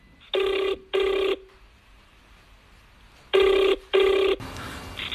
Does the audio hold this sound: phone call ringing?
yes